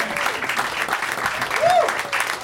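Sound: audience clapping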